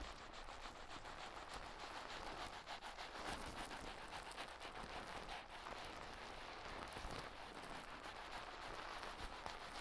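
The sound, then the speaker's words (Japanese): Tiny bubbles pop in a dense, continuous fizz, a steady crackle of countless sharp little snaps with occasional slightly louder pops, lasting the whole time with no voices. “パチって小さい泡が弾ける音。”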